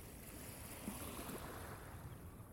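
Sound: sea waves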